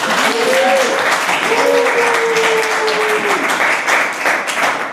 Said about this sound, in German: Wir sind hier nicht in unserem Studio wie sonst, sondern sind hier in der Zentrale von Hannes Hawaii Tours auf Mallorca, sind gerade in unserem Trainingscamp von trimark.de und sitzen hier vor Publikum. Ihr dürft jetzt einmal klatschen.